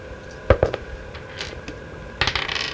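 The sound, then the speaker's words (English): Small dice, rolled for initiative, clatter across a hard tabletop in a few sharp knocks, then a quick rattling burst of several more dice tumbling and settling near the end. “Roll initiative, please.”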